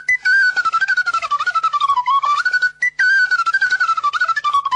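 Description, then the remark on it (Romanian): A shepherd's fipple flute (fluier) plays a quick, ornamented folk melody in D major, bright and slightly breathy, loud, in two phrases split by a brief breath, with no other sounds. “Deci fluier în re major.”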